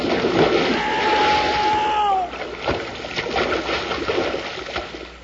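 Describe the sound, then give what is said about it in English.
Rushing, churning water roars as big logs, with people riding them and gripping a chain, slide down into a lake; a heavy splash hits and the water keeps sloshing and spattering loudly afterward, with a brief whistling tone riding over the noise early on. “We'll hit with a big splash, so hold on tight.”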